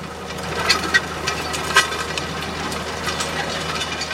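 A tractor engine runs steadily with a low, continuous diesel rumble, punctuated by a few brief metallic clanks and rattles, with no voices. The tractor drives onto a nature area to harrow it, levelling the ground so it can later be mowed by machine.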